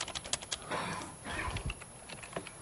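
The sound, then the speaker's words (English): Rapid, irregular clicking of keys being typed on a computer keyboard during a database software demo, fairly quiet, with short bursts and brief pauses and no voices. “I hate this keyboard, I got to tell you.”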